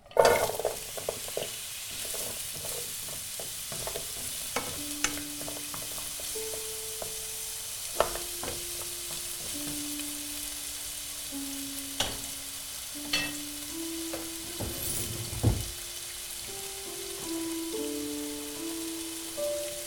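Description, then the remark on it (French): Small diced pieces are gently sautéed in a little melted fat in a non-stick pan with a steady, soft sizzle, broken by scattered sharp crackles and occasional clicks of stirring, while a faint low tone hums underneath throughout. “Et puis, simplement, je rajoute mes petits dés que j'ai découpés et je les fais revenir doucement.”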